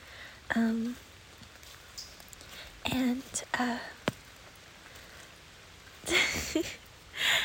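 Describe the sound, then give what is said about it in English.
Steady hiss of rain falling outdoors, recorded on a phone during a walk in the rain, fills the background, broken by a few soft bursts of a whispering or murmuring voice. “The rain sound is making me really, really have to pee.”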